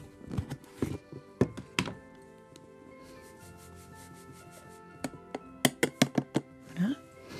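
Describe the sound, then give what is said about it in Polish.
Half a cup of flour is poured into a bowl while making a dough: a few hollow thunks and taps, then a soft, steady hiss of powder spilling, followed by a quick run of sharp knocks against the bowl. “To była mąka.”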